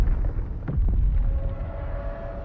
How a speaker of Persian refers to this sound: همه گوش کنین، آتش فشان داره فعال میشه، اینجا خطرناکه.